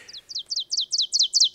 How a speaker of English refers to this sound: An oven bird is a great one to listen for, because it is a member of the warbler family, and where most of our warblers are brilliantly colored, this one is brown on its back with a little speckling on the breast, and he's on the ground